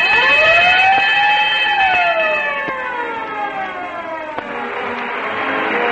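signal or alarm, fire siren and bell

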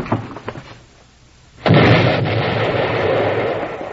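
sound effect, dynamite explosion

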